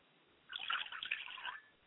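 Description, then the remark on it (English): A short pour of liquid as a libation poured to the south, roughly a second of soft splashing and trickling onto a surface, quiet, with no talking around it. “Finally, I pour libations to the south, and I say Ashe.”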